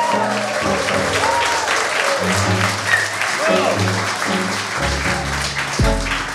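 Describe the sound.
A live audience at the House of Photography in Covent Garden, London, claps steadily and loudly throughout, a dense, continuous wash of hand claps with scattered cheers and voices rising within it and a low tonal hum running underneath.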